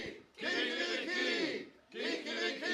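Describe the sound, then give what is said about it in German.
A crowd shouts a loud rooster-crow 'Kikeriki' cheer together, called for as a triple cheer, voices imitating a cock's call in two long, rising bursts separated by a brief pause. “So, und darauf ein dreifaches Kikeriki!”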